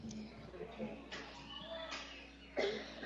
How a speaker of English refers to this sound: I wonder what he'd say about my cough.